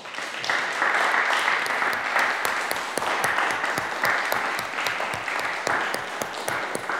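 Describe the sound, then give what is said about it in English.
Sustained audience applause for three performers at the end of a session, a dense crowd of many hands clapping steadily at an even, fairly loud level for several seconds, with no voices standing out. “All right, let's have a final round of applause for our three performers today.”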